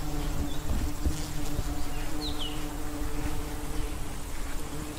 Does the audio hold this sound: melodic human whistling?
no